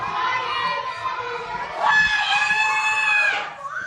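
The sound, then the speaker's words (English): A loud, strained shout rings out for about a second and a half, rising sharply over a noisy background of other voices before cutting off. “No, I've been yelled at louder.”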